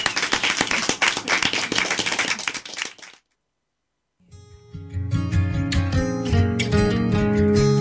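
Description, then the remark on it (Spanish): A burst of audience applause at the close of a Radio Nicosia program, dense and steady for about three seconds, cuts off into a brief silence before a loud musical passage starts up. “Pues muchas gracias y un aplauso muy grande.”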